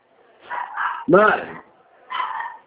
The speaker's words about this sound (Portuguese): Mãe! Eu fiz uma cirurgia na orelha, não deixa eu ouvir, o cachorro tá latindo.